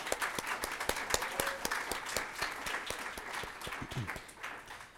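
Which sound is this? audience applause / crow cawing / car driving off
audience applause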